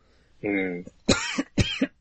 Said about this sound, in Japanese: めちゃくちゃ咳してる。めちゃくちゃ咳してる。